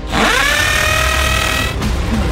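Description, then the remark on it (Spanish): A power drill whirs up to speed and holds a steady high-pitched whine for nearly two seconds, loud, then cuts off abruptly with a brief rattle trailing after. “¿Por qué no agarramos un taladro?”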